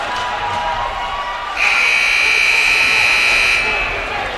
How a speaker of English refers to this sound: And we have a whistle, and that is the end of the period.